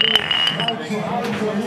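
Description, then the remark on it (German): Glasses clink together in a toast, a few bright taps with a short ringing tone that fades quickly, while voices murmur in the background. “Prost, Engel.”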